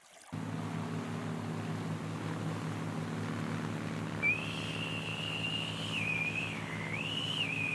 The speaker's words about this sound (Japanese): 悪いんだがその口笛やめてくれないか。また追ってのエンジン音が聞こえてくるかもしれないからな。